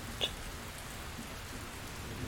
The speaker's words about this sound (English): Not to mention the sounds of the rain.